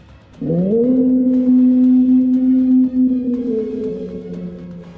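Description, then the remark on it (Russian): A single long, loud howl swoops upward at the start, then holds a steady mournful tone for several seconds before slowly tapering off with a reverberant, echoing fade. No voices. “Вой эхом расходится во все стороны, оповещая подземных обитателей о том, какая коллекция сегодня будет собрана.”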